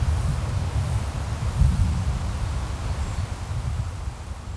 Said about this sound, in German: Dann lässt sich die friedliche Stille in dieser schönen offenen Landschaft besonders gut genießen, wenn nur das Meer rauscht und der Wind durch die Gräser streicht.